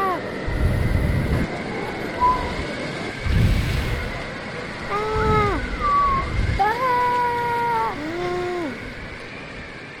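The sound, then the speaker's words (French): Gusty storm wind roars and buffets the microphone in repeated low bursts, with a steady hiss throughout and wavering, howling tones rising and falling in the second half. “Toutes les poubelles sont tombées. À cause de quoi ? Du vent. On est dans la tempête”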